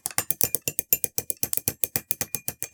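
A Rotolactor mechanism clatters as it is pushed and turns, giving a steady, even run of sharp ratcheting clicks, roughly six per second, with no voices over it.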